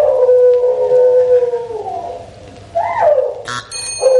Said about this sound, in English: I don't think that's a hippo. What do you think it is? Sounds like a cormorant. No marks for that. It was a dingo.